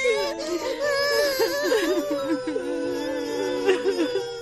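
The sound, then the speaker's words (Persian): A person cries and sobs continuously, with wavering, strained wails rising and falling for several seconds, no words spoken. “گریه نکنین دو خدا، گریه نکنین عزیزای من.”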